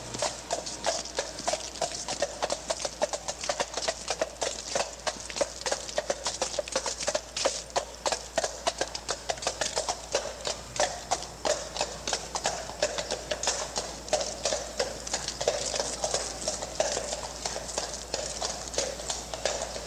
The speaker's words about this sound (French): Sabots de chevaux, Central Park, New York City.